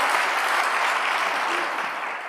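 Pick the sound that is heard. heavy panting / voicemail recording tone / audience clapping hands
audience clapping hands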